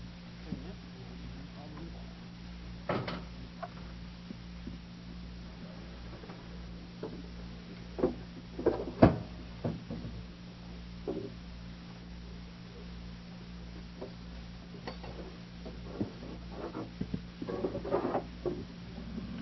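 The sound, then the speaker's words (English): Scattered knocks, taps and soft scrapes of a chalkboard being set up, with a few sharper clunks among quieter handling noises over a steady low room hum. “Now at this point, I would like to, would you put up that board and the chalk, and I can.”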